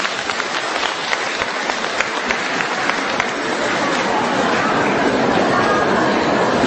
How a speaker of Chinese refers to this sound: 让我们用掌声感谢慈悲的卢军宏台长。